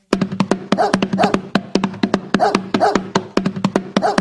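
A puppy barks in a rapid, continuous string of sharp, high yips, fairly loud, with no voices over it.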